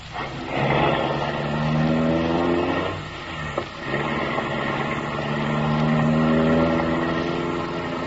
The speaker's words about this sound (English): The car motor is idling.